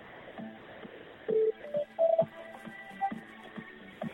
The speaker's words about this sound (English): It's the News 24 kind of hold music. Is there any chance of getting a bit louder? Because it's a bit quiet.